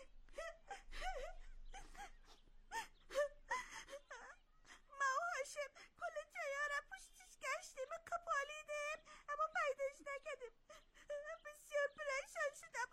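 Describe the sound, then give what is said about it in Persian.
A child cries and whimpers in a wavering, high-pitched voice, with broken sobs and catching breaths that rise into drawn-out wails, fairly loud, continuing throughout. “تو چرا گریه میکنی”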